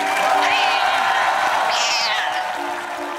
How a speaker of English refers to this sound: Guess what? He's here with us tonight. Let's give the field crew member a hand. Come on.